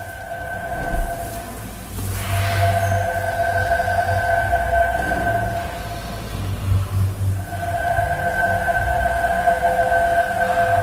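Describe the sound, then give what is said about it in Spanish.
An electric car drives by, its motor giving a steady high whine of sustained tones over a low rumble; the whine fades briefly midway, then returns just as strong. No one speaks. “O sea, un coche eléctrico es esto.”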